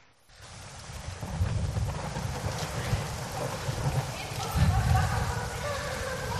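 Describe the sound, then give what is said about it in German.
Storm wind roars over the sea around a ship in distress in a steady, broad rush with a heavy low rumble, swelling louder around the middle and again toward the end, with a faint tonal whine joining later. “Der Sturm wird immer schlimmer.”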